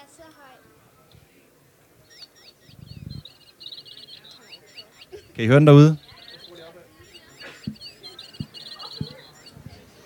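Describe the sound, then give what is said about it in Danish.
A squeaking toy bird chirps in quick, repeated high peeps throughout, with one louder, drawn-out squeal near the middle, while a person speaks briefly in the background. “Jeg har brugt en pipende fugl.”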